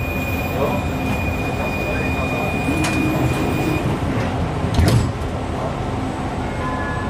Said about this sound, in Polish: Tramwaj numer 18.